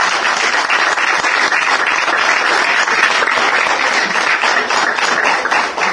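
An audience breaks into sustained, steady applause, dense crackling claps filling the full six seconds at an even, loud level with no voices rising above it.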